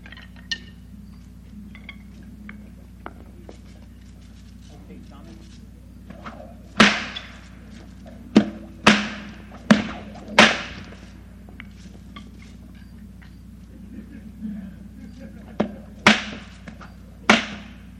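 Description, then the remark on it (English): Sharp whip cracks from whip popping ring out, about seven in all, arriving in an irregular cluster and then a later pair, loud over a low steady background hum, with no talking. “I'm going to do a little whip popping too, along with Tommy.”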